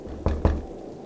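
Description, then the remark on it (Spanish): Two heavy, desperate knocks on a door in quick succession, loud with a deep thud, followed by quiet room tone. “«Apaguen la televisión y hagan silencio», murmuró con voz temblorosa, mientras el sonido de golpes desesperados resonaron en la puerta.”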